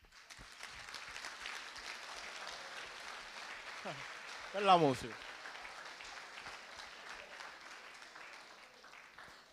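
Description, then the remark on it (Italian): A crowd applauds the person next to them as an act of worship, clapping steadily and densely throughout, a continuous crackling wash of applause, while a voice briefly speaks over it midway. “Ora guarda la persona che è accanto e gli fa un applauso.”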